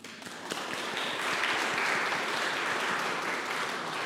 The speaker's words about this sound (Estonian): Võib-olla püha kojas ei ole see kõige paslikum, aga ma võtan patu oma hinge peale. Teeme aplausi nendele, kellel on pulma aastapäev.